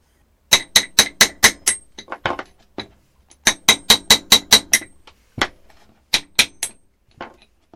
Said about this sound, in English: And to get at the spring, I've got to remove the cover on the drum, which is a press fit. So I shall use a small drift and a hammer and tap it off.